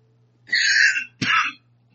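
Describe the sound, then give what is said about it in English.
Two raspy coughs, a longer breathy hack followed by a sharper, abrupt one, with no talking and only a faint low hum behind them. “The other note to make about the coronavirus is this cough's been a joy when I go out in public.”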